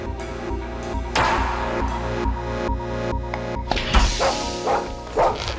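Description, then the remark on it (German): A dachshund barks in a handful of sharp, high yaps spread across the few seconds, heard over a steady, humming tonal background with no talking. “Hier sind nur... zwei Knalltüten und ein Dackel.”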